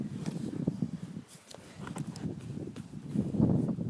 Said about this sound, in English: Look, it's the cow. Oh, he's coming on the trailer.